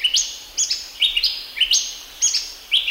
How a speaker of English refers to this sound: When those birds sing their late afternoon calls, that's a signal to the children to go back home.